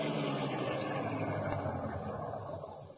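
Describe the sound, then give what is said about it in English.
The engine of the Black Beauty car rumbles steadily, easing down as it pulls close to the back of a building in a back alley and stops, settling into a low idle, with no voices. “Pull close to the building and stop.”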